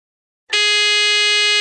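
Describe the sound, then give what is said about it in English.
After a short silence, a loud, harsh electronic quiz buzzer is pressed and blares, holding steady, with no voices over it. “Fingers on buzzers.”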